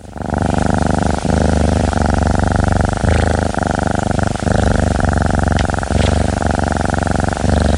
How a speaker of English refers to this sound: Did you recognize that sound? That's the sound of a healthy, well-cared-for cat. I truly hope you've been lucky enough to hear that sound before.